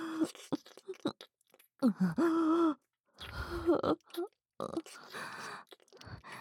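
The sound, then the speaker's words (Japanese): Heavy, strained breathing in uneven bursts of gasps and sighs, with a couple of longer voiced groans mixed in, moderately loud with short pauses between breaths. “人間さん、ずいぶんと息遣いに余裕がないですね。”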